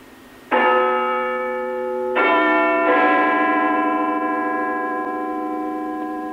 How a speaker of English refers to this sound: The sound of Big Ben has been broadcast live almost without break for over 90 years on BBC Radio. Now over to Westminster, hopefully, for the chimes of Big Ben.